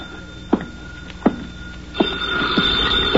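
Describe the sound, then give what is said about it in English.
A telephone rings in an office, its bright metallic ringing rising in the second half after a few sharp knocks and clicks. No one speaks. “I sat down to wait for him, and the phone started ringing.”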